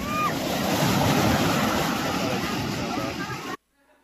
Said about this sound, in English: Here, the heartbeat of camp is the waves on the shore.